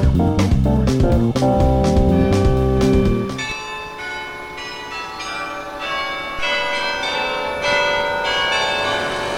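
Church bells strike from the tower of the Martinikirche in Bremen, heard in an office: several loud overlapping strikes in the first few seconds, then a softer, sustained ringing with lingering bright overtones. No voices are heard.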